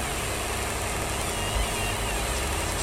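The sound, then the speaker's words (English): A car engine idles steadily, a continuous low rumble with a broad hiss over it, holding at an even level throughout with no voices. “There's a stupid car in the way.”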